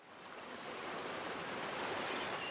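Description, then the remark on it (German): Sea waves wash steadily onto the North Sea coast, a broad continuous rush of surf that swells slightly louder toward the end, with no voices present. “Doch mit der Flut kommt das Wasser wieder an die Küste.”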